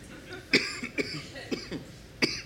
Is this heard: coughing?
yes